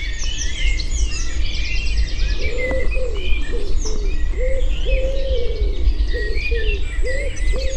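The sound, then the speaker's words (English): A lively spring dawn chorus in an Irish woodland in late spring: blackbirds and robins warble and trill overhead while a wood pigeon's soft, repeated cooing runs through the middle, with a steady low background hum. “The rich voices of blackbirds, robins, and wood pigeons proclaiming territory and advertising for a mate.”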